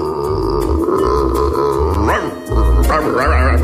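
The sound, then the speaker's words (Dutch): A person's voice imitates a barking dog, giving a couple of rough, rising bark-like yelps over a steady low background hum, fairly loud. “Ja, natuurlijk een hond.”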